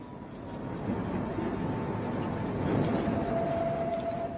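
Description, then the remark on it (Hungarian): A tram rolls along its rails with a steady rumble and clatter, while a thin metallic whine rises and holds toward the end as it keeps moving. “Villamosozok. Még mindig? Néha egész nap.”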